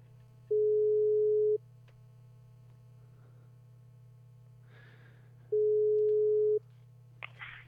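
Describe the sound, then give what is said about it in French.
Two long, steady electronic telephone beeps of an outgoing call at a single mid pitch, each lasting about a second, separated by a pause, over a constant low hum with faint static and rustling, no one speaking. “normalement ça bip, hein, je suis désolé.”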